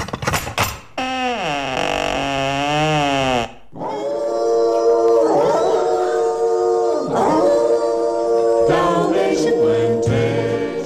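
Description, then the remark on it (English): Two Dalmatian dogs on a doorstep, hackles raised, howl loudly in long, wavering, overlapping cries, breaking off briefly before rising again, with fierce growling at a strange woman mixed into the later stretch. “There, on Cruella's doorstep, were two inquisitive-looking Dalmatian dogs, their hackles raised and growling fiercely at the strange woman.”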